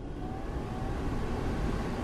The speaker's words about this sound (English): In the United States, that sound has become a part of the climate. Energy-sucking air conditioning, blowing through the interior spaces of our lives constantly.